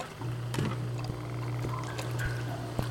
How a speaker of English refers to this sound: what's the dripping? The sump pump?